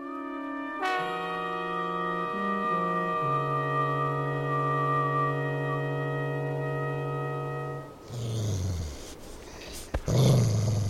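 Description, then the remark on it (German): A dog named Rico lets out a long, low, steady growl lasting several seconds, its pitch dropping slightly in steps, then breaks into a few rough huffs and snorts. No one speaks. “Sitz, Rico.”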